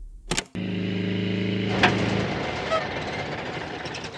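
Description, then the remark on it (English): A sharp clunk, then a steady car engine hum starts up and drones for a couple of seconds before the engine stops, leaving only a soft, noisy rumble behind. “The engine stopped.”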